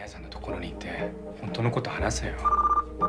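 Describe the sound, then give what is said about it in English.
A phone rings in short, rapid electronic pulses near the end, with voices talking underneath and before it. “Hiro wearily answers the phone and says, Tadashi, you on the roof?”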